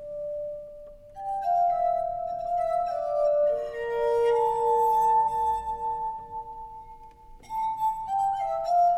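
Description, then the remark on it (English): A bell rings out several times, each strike leaving a clear, mid-pitched tone that hangs and overlaps with the next, shimmering softly as it fades, with no voices present. “Arthur Zajonc just spoke of finding the aesthetic and moral qualities in the sound of a bell.”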